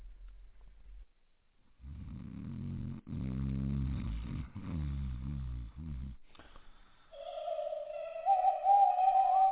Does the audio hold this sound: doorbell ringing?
no